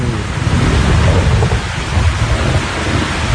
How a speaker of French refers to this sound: On va écouter l'orage et la pluie, c'est trop beau. Maintenant il fait complètement nuit, il fait complètement noir, et quand il y a des éclairs comme le toit est ajouré, on voit les arbres qui se dessinent sur le fond de l'éclair.